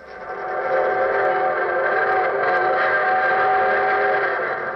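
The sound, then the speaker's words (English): A train whistle blows one long, steady chord that swells in at the start and holds loud and unbroken for several seconds, with no voices over it. It is the evening train whistling for Hunter's Bottom. “There's the evening train whistling for Hunter's Bottom.”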